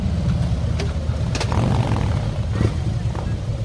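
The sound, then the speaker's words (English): Harley-Davidson motorcycles starting up for the start of a procession at Shepperton Railway Station, their engines producing a deep, steady, throbbing rumble that stays loud throughout, with a few brief sharp clicks and faint voices mixed in. “You can probably hear the Harley Davidsons getting themselves started up here, ready for the start of the procession.”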